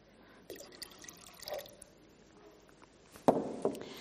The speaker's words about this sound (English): As we read and seek to interpret for today the stories, the judged important to be handed down to us, we pour the water.